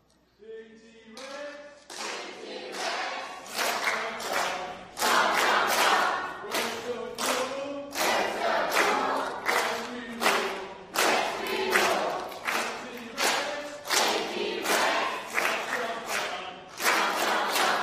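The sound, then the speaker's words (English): A large group cheers loudly and steadily in a cheering competition for points, with rhythmic claps or stomps beating out a fast, regular pulse beneath the shouting for the whole stretch. “We're going to see who does the better job cheering.”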